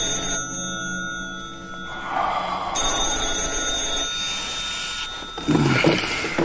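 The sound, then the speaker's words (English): A telephone rings with a sustained, metallic bell tone that carries on for several seconds, clear, with no voices, followed by a brief rustling clatter near the end. “It was nearly 2 o'clock in the afternoon when he woke to the sound of the telephone ringing.”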